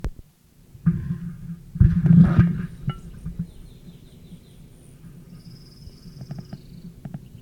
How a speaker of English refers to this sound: Dive by male rufous, object unknown.